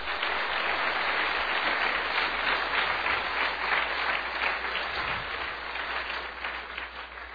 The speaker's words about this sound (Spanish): ¡Gloria a Dios! ¡Den ese aplauso al Señor!